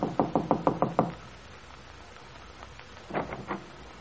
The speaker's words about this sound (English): Getting out, she walks to the door of Bungalow B and knocks.